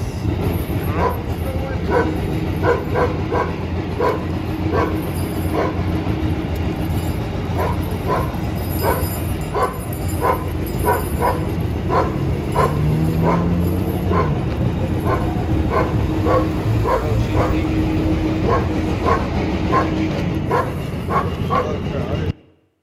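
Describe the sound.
A dog barks loudly and repeatedly beside sheep walking out of an alley onto a street in Bethlehem, sharp yaps coming in quick irregular bursts for over twenty seconds, over a steady outdoor rumble with some indistinct voices.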